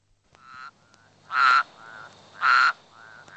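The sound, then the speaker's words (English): Frogs croak in a steady rhythm, with two loud, buzzy calls standing out between softer, shorter croaks, with no voices present. “Frogs.”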